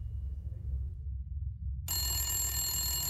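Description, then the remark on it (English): A low, steady rumble gives way about two-thirds through to a telephone ringing at a friend's house, a bright, loud, shrill ring that cuts in abruptly and continues to the end. No one speaks. “I was at my homeboy's house when the phone rings.”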